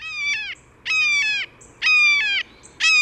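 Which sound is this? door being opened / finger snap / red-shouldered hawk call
red-shouldered hawk call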